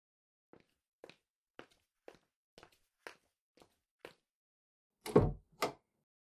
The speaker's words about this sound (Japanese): さて、念のためドアに鍵をかけてっと。 よし、これで誰かに見られる心配はないな。